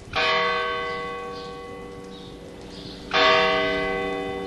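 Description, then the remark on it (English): A church bell at La Mezquita, the great mosque of Córdoba, Spain, now a church, tolls twice about three seconds apart. Each strike rings out loud and rich before slowly fading into a long, humming resonance. No voices are present. “A church bell tolls at La Mezquita, the great mosque of Córdoba, which was converted to a church in 1236.”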